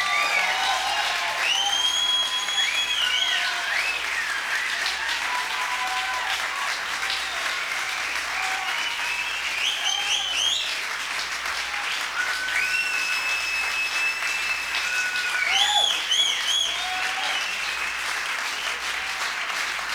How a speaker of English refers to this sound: Let's hear it for him